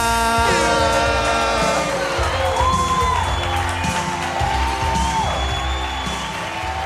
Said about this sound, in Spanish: Estoy súper interesado en ver qué va a hacer esta persona. Fuerte aplauso para